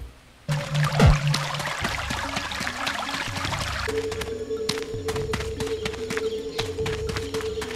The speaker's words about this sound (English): It started to rain.